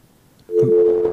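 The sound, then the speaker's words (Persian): After a moment of near silence, a loud, steady telephone busy tone switches on and holds for the rest of the moment, a flat electronic hum over faint line noise, after a listener's call to a radio phone-in show was cut off. “تماسشان قطع شد متاسفانه.”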